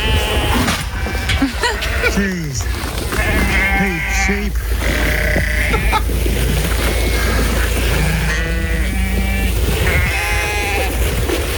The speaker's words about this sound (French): Alors, donc des moutons, clairement. Des moutons, ça c'est bon. À un endroit qui devrait pas être. Qu'est-ce qui se passe avec ces moutons?